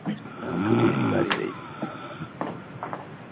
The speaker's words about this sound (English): So, who's snoring?